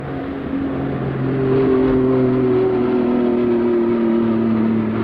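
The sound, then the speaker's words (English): An airplane passes overhead: a loud, steady engine roar with low droning tones that slowly slide downward in pitch across the whole stretch, with no voices. “Airplane just flew over.”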